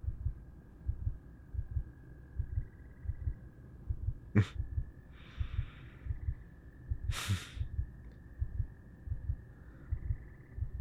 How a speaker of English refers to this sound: How does my heartbeat sound like? Fast and erratic.